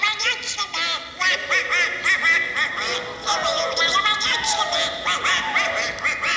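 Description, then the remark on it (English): The Disney cartoon character Donald Duck's raspy, quacking voice jabbers on continuously for several seconds, fairly loud, with garbled, sputtering syllables and no other sounds around it. “You know that Disney character, whatever.”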